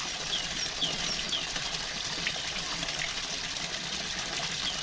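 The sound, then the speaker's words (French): A small stream in the village of Podnanos flows steadily, a continuous bright babbling and trickling of water with a few faint chirps above it, constant in level throughout with no talking. “Un petit cours d'eau apporte de la fraîcheur.”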